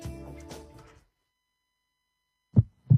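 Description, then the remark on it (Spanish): A brief musical passage fades out into silence, then a single deep heartbeat thumps twice in a quick lub-dub pair, loud and muffled, as a sound effect in a Radio Alcalá station jingle. “En la onda local, sigue con nosotros el ritmo creciente de los latidos del territorio andaluz.”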